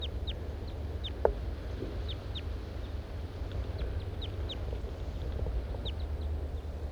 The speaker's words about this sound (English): Now both males are here above me in the trees. Pointed at the large race male. The birds are interacting to some extent.